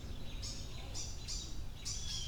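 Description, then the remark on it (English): Several quick, high-pitched chirps from excited birds repeat in bursts over a steady low outdoor rumble, moderately loud, with no one talking. “Yeah, birds are getting excited.”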